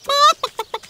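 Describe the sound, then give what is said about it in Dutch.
A hen, one of Moe's chickens, clucks: one drawn-out, squawking note followed by three short, clipped clucks in quick succession, loud and clear with nothing else audible. “Dat was het getok van een van Moe's kippen.”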